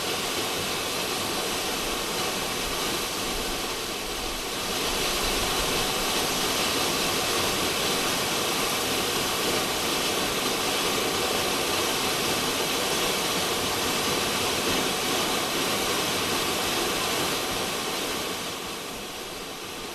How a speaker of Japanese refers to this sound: 吊り橋、滝、すごいね、滝のてっぺんから水が落ちてる。